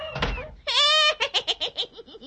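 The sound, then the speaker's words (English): Cats meowing and dogs barking in a loud, jumbled burst: a rough noisy yelp, a long high meow, then a quick run of short yapping cries that fade away. “It's raining cats and dogs.”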